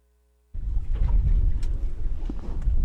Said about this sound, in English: shuts off the engine of his work boat as he approaches his go-to wild kelp bed.